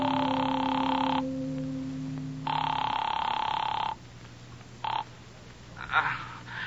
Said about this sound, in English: I found a cigar store still open, closed myself in the phone booth, and called him. The phone rang a long time before he answered.